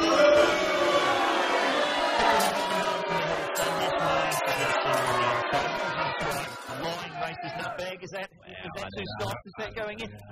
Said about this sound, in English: Because a lot of people will call up and want Andrew Bolt's band. Give him a booing. Bolt, what's he done?